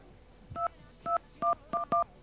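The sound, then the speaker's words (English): Five touch-tone dialing beeps, each a short two-tone electronic chirp, arrive at a steady pace before the last two come in quicker succession over a faint hiss, with no one speaking, as the wrong number is dialed in place of a PayPal phone number. “Oh, I'm sorry, I dialed the wrong number.”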